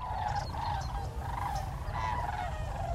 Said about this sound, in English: sandhill cranes have been gracing the skies of western Colorado as they travel through on their annual spring migration.